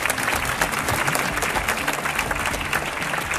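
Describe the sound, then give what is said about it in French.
A large audience applauds steadily in a hall in Saint-Brieuc, a dense wash of many hands clapping at once, sustained and fairly loud throughout with no voices standing out. “Et on peut les applaudir.”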